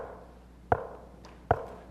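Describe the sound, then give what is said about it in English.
Two sharp, hollow knocks land about a second apart on a hard surface, each one short and distinct, with no one speaking. “And He knocks. And it's just not a quick knock.”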